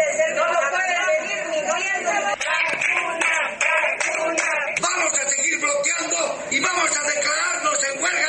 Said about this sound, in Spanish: Con gritos y carteles se instalaron las protestas.